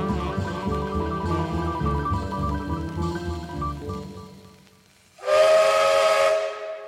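Low, steady humming tones give way to a single loud blast of a steam locomotive whistle, a shrill, breathy shriek with heavy hiss that holds for about a second and a half.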